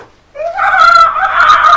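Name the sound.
voice imitating an elephant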